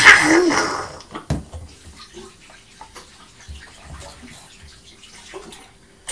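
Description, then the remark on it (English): Running tap water gushes loudly for about a second while hands are washed, then stops, leaving quieter scattered splashes, drips and soft rustling. “I've to wash my hands.”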